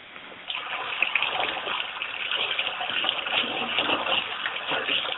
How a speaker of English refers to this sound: Is someone running water? Because there's some kind of water or something on there.